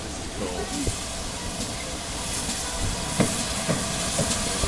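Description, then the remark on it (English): A steam train rumbles as it passes under a bridge, a dense steady hiss of steam and machinery punctuated by a few sharp knocks and chuffs toward the end. “We will get steam.”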